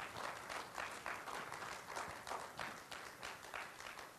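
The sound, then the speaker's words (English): A large group claps loudly and steadily, a dense wash of applause with surging pulses for several seconds, with no voices standing out. “But we can clap loud, can't we? We can yeah, there's no hindrance on clapping loud.”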